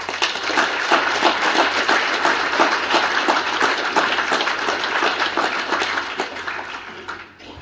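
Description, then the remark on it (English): An audience gives one more round of applause for a man's work on a project, many hands clapping steadily for several seconds in a dense, overlapping patter that holds an even loudness before tapering off at the end. No one speaks. “And I think we should have one more round of applause”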